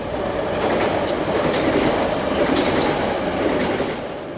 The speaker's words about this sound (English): All Julian Martinez and Ulysses Finister ever hear on this street is a commuter train that crosses a track raised above the street